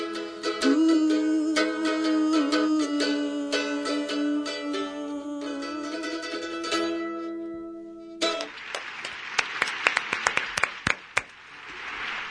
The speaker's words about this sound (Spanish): Suben, bajan los aplausos. Sí, suben y suben y bajan.